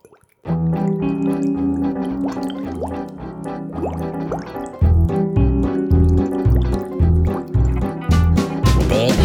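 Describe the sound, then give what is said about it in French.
Liquid plops and splashes with rising bubbly blips as all sorts of ingredients are frantically thrown into a simmering cauldron, steady over a rhythmic, bouncy music bed that continues throughout. “Frénétiquement, elle jetait toutes sortes d'ingrédients dans sa marmite.”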